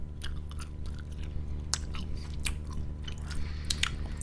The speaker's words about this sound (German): Stößchen. Prost. Rein damit. Erstmal ein bisschen kauen, erstmal geht's.